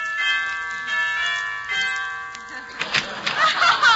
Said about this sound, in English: Let's go in, shall we? Yeah, I'll ring the bell here.